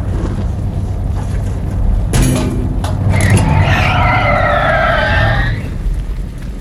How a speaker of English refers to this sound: I'm gonna stop the car.